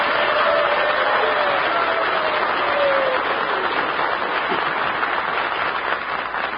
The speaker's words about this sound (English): All right, come on, let's send a cheer to the great Alabama Crimson Tide.